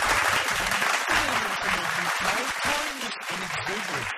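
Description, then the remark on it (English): A crowd applauds steadily for comedian Josie Long on the show Get This, a dense wash of clapping that stays loud for the whole stretch, with a voice faintly audible underneath. “This is the second hour around the nation, and please have some more applause for Josie Long.”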